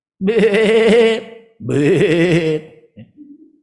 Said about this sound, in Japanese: ベーとかね、言うんですよ、羊さんね。